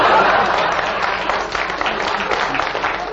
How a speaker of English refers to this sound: And if this audience clapped much longer at Derek Nimmo's cracks against me, I'd turn the whole lot out.